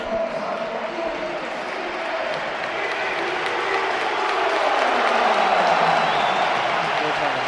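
stadium crowd cheering

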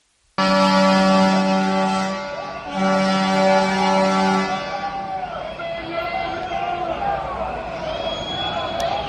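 horns honking

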